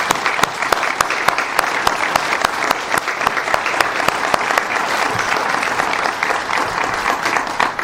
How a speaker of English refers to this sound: They deserve a round of your applause.